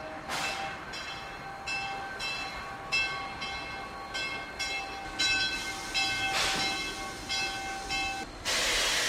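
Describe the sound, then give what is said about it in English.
A train pulls into the station, with rhythmic clanking bursts, a sustained metallic squeal or whistle tone, and hissing steam building toward the end; no one speaks. “And there comes the train now.”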